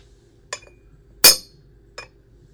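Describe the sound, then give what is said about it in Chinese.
A ceramic bowl drops and shatters with one loud, bright crash, framed by a lighter clink just before and a small clattering tick after, with no voices. “你他妈的居然把我的碗打碎了，你要当瞎子阿炳吗？”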